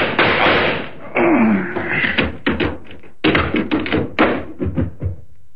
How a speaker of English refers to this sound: All I need is this gun. What gun? Yeah, the kind that goes bang, bang, like this.